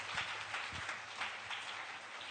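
A crowd claps hands for the Lord in a steady, dense wash of overlapping claps, sustained and fairly even in loudness with no voices over it.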